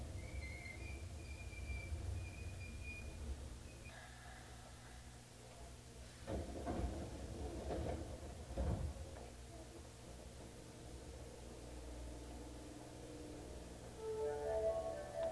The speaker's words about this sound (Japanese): 右側の扉が開きます。ご注意ください。